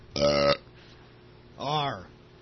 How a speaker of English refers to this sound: like burping.